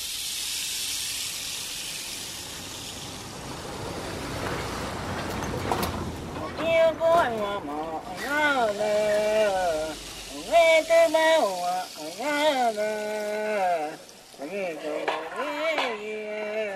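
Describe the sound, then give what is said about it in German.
A steady rushing hiss of a boat travelling over river water, like wind and spray, fills the opening seconds as the boat returns to a village; a voice then talks over the continuing background noise. “Ein paar Tage später kehren wir mit dem Boot ins Marmelosdorf zurück.”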